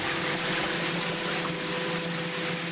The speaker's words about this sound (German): Anthropogene Stressoren heißt der Einfluss von zum Beispiel Booten, Schiffen oder der Sound hier. Das ist ein Offshore-Windpark.